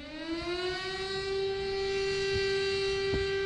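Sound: siren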